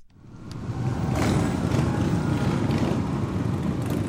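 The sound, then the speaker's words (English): A loud, continuous roar of dozens of motorcycle engines rumbling together as riders roll into downtown Natick, Massachusetts, on a Sunday afternoon while a crowd salutes, swelling in over the first second and then holding steady, with no voices. “Members of Rolling Thunder rolled into downtown Natick Sunday afternoon, dozens of motorcycles roaring as the crowd saluted.”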